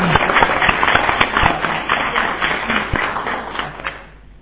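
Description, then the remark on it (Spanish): A crowd applauds the event organizers with dense, steady clapping, many hands overlapping into a bright crackling wash that holds for several seconds before tapering off at the end. “Venga, un aplauso para ellos.”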